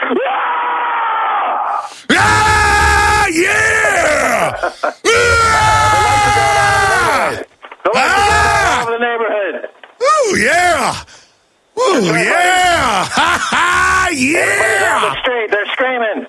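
A group of voices in a studio shouting a loud war growl in several long, strained bursts separated by brief pauses, the pitch swooping up and down like roars and wails, with no clear words.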